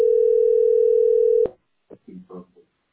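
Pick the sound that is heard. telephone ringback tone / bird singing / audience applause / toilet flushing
telephone ringback tone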